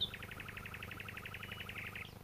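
A nightingale sings at dawn in scrubland, a fast, rapid-fire trill of about twenty repeated notes over two seconds, close and clear above a low, steady background rumble.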